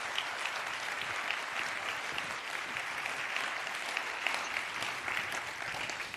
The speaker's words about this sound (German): Einen herzlichen Applaus bitte.